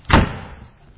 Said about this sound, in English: Did it not say she closed the door on him?